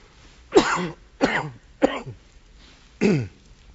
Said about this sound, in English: Excuse my cough.